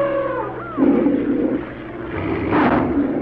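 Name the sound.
lion roaring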